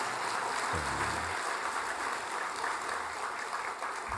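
An audience applauds steadily to thank the church choir, many hands clapping together into a dense, even wash of sound that holds at a constant level for the whole stretch, with no voices.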